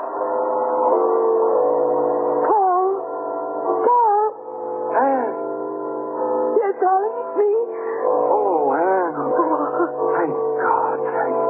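A dog whimpers and howls close by in a long, unbroken stretch, its whining voice repeatedly sliding up and down in pitch, fairly loud and with no one talking.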